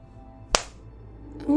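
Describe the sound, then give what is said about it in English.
One sharp, loud smack of a hand striking skin, a crisp crack that fades quickly, followed moments later by a short rising vocal sound. “And might as well give it a smack for good measure.”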